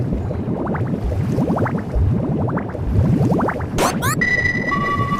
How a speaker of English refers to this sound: That was kind of an accidental bubble.